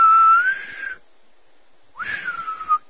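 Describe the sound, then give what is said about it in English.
A Navy boatswain's pipe whistle call: two shrill, reedy whistle blasts separated by a short pause, the first rising steadily in pitch and the second swooping up then holding before trailing off. “That is our Navy whistle.”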